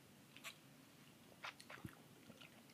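Someone takes first sips of a lime cocktail over small ball-shaped ice cubes, with a few soft, scattered clinks and slurps and a dull thump near the end; no one speaks.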